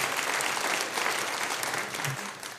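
An audience claps for a question, steadily for a few seconds, a dense, even patter of many hands at a constant level with no voices standing out.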